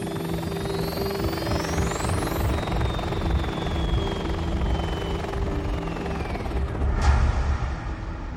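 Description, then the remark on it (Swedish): A helicopter passes overhead with a steady, heavy rotor thrum and a rising then falling engine whine, loud, with a brief sharp burst near the end. No one speaks. “Polisen tror att det är han som var pilot under det mest uppmärksammade rånet någonsin i Sverige. Helikopterrånet.”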